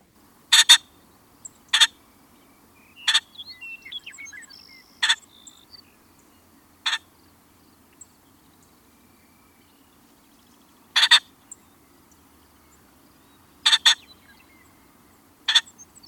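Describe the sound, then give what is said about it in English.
A ring-necked pheasant gives loud, harsh crowing squawks, short and sometimes doubled, repeated about eight times at irregular intervals over a quiet outdoor background with faint chirps. “Here's a recording of a ring-necked pheasant's call.”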